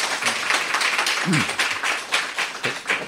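An audience claps steadily to thank a lecturer at the close of the final talk in a lecture series on Madhyamaka Buddhist philosophy, a dense, continuous patter of many hands for a few seconds, with a brief murmur of voices underneath.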